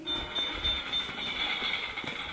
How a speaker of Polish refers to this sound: Pociąg.